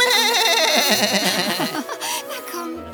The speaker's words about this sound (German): Komm, liebe Ziege, komm.